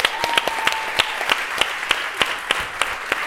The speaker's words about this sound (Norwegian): Gjennom en applaus.